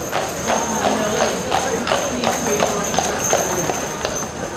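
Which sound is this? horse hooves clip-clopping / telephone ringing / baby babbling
horse hooves clip-clopping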